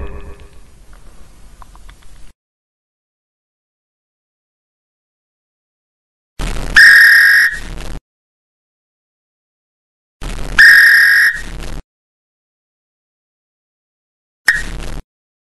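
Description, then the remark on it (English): A football coach's whistle shrieks in sharp, loud blasts: two long ones a few seconds apart, then a quick short toot, with a stretch of quiet and faint rumble before them. “Now when I blow this whistle, that means you get a hustle.”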